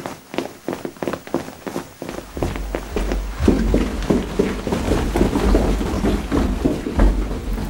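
Three people's quick footsteps clatter down a staircase in a rapid, uneven patter, joined partway through by a low rumbling that thickens the sound. The steps are fairly loud, with no talking.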